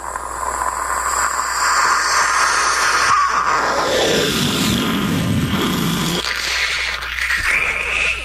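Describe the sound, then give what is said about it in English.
A voice mimics a jet flying overhead with a long, loud, breathy hissing roar that swells and sweeps downward in pitch midway, then carries on steadily with no words spoken. “Let's hear a little passing jet.”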